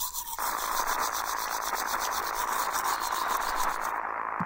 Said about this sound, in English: What the... Mom, something's wrong with my favorite show. It's just, like, static.